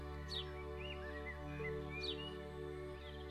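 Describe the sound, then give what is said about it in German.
Several birds chirp and twitter softly around a path on a warm, sunny day, with quick descending whistles and trills repeating over a steady, low humming drone beneath them. “Und während du den Weg entlang läufst, hörst du die Vögel um dich herum zwitschern.”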